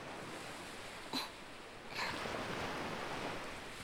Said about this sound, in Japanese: 海の音。波が、砂浜に打ち寄せて、引いていく。